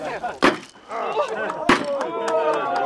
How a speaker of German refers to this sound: Wenn Sie erlauben, werden wir feierlich auf den Grundbalken klopfen. Normalerweise nimmt man einen Hammer und einen Grundstein, doch wir haben einen Holzbalken ausgewählt.